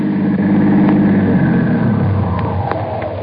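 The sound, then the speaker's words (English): A car engine hums loudly, its pitch sinking steadily as the vehicle slows down and comes to a stop. No one speaks. “how do we grab the car?”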